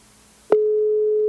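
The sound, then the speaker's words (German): A single steady telephone ringback tone starts abruptly after a moment of near silence and holds evenly, fairly loud and clear, with no talking over it. “Ich hoffe, ihr hört das Tuten auch.”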